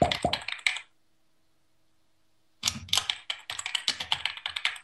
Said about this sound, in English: Bad lighting increases your risk of household falls by 345% as he's typing in the dark.